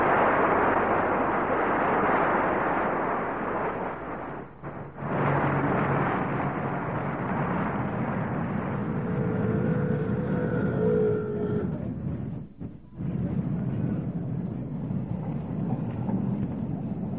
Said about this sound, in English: No, darling, it's a number 42. There'll be another tram in a minute or two.